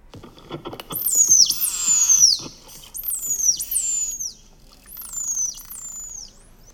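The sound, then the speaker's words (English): Recordings of whistles from different individual animals, whose whistle structure differs between individuals, are played back: about five high, squeaky whistles, each sweeping sharply downward in pitch, come in quick succession with brief gaps between them. There are no voices. “The structure of the whistle is different between individuals. So I'm going to play these so you can have a listen.”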